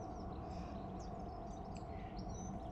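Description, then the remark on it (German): Faint birds chirp and twitter with scattered short high calls, set against a steady soft background hiss and low hum. “Vielleicht hörst du das Zwitschern der Vögel.”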